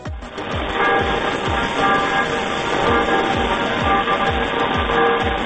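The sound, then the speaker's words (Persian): Church bells of a town church ringing to announce a death, in a steady, rapid peal, with strokes about twice a second over a dense, loud wash of lingering tones. There is no talking. “در همین فاصله که باهات صحبت کردم صدای زنگ کلیسا خبر جدید تری از یک مرگ میده.”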